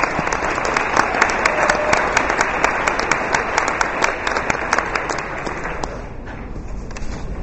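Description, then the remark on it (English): A crowd breaks into sustained applause, dense clapping filling the space steadily for several seconds before thinning slightly near the end. “How about one more round of applause for those two?”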